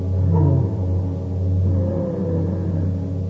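A deep, steady rumble of thunder from a storm approaching outside rolls on for a few seconds, low and heavy, swelling slightly and then holding without any voices over it.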